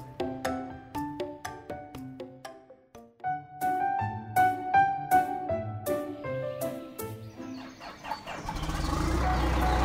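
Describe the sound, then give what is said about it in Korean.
A bright, bouncy melody of plucked tones plays, then a loud, steady rumbling dump truck engine takes over for the last couple of seconds; a duck is driving the dump truck, filling it and hauling dirt. “오리가 덤프트럭을 운전하고 있어!”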